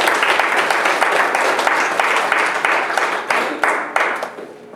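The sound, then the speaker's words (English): A crowd applauds steadily, a dense wash of many hands clapping with a few sharper individual claps standing out, then fading slightly toward the end. “Give her a warm hand of applause.”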